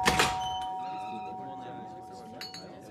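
A doorbell rings with a bright ding-dong chime, its clear tones ringing out and slowly fading over a few seconds.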